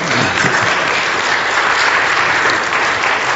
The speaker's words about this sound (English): So I think when you look around and see the beauty that's on these pews and know that this was all done here with the ladies in the church, I think we give them a nice round of applause right now, okay?